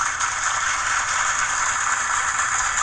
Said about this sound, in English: Okay, you can stop now, thank you. That was heavy applause for that one. Crowd's going wild.